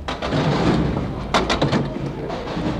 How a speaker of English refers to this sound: The sound we are listening to now is the sound of people putting their 15-cent tokens into the turnstiles and entering our city's Underground Railroad.